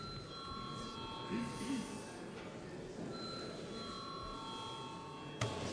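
A sustained electric bell rings steadily in a parliament chamber for several seconds, calling deputies to vote, its bright metallic tone holding with little variation over a murmur of background chatter and movement.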